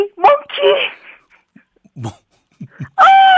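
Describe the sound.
A phone-in caller from Geochang, South Gyeongsang, on a Korean radio show imitates a monkey call: a series of loud, high-pitched whooping cries broken up by short grunting bursts, delivered in an uneven, excited rhythm.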